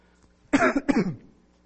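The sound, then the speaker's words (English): Two quick, harsh coughs in close succession during a sermon, loud, with quiet before and after and no talking. “The ultimate promise is that one day we'll be in heaven with Him, no longer deal with sin, no longer deal with suffering, no longer deal with coughing during sermons.”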